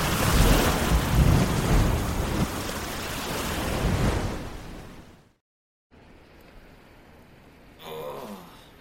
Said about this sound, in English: How is it even possible for a boat to make a wave that big?